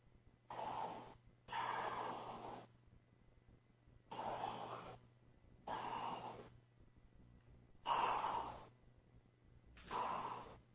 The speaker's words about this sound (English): What's that sound? Someone's breathing. It sounds like...